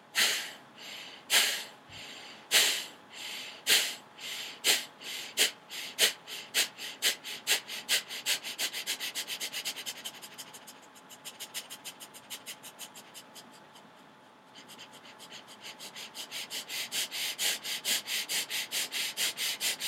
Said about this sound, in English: So as you become accustomed to this style of breathing, you gradually increase the speed, always keeping the breath rhythmical. The force of the inhalation and the exhalation must always remain equal.